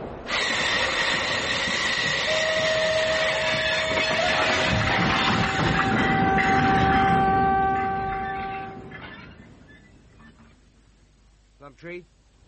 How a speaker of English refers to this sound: When does this train stop? It doesn't stop. It's straight through to London.